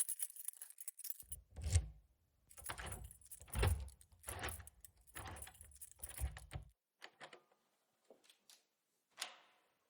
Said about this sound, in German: Es war 7 Uhr abends und der Schlüssel drehte sich zweimal im Schloss.